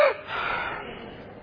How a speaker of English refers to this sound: Number three, diaphragm breathing. Everybody all together.